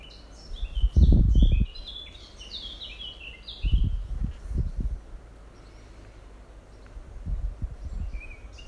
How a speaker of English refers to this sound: Start by bringing your attention to the birds singing.